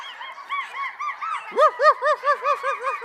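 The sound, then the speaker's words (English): Several voices imitate dog barking as everyone is told to bark in a lesson, starting as a loose, overlapping clamor and then settling into a steady run of about eight loud, honking woofs in quick rhythm. “Good barking.”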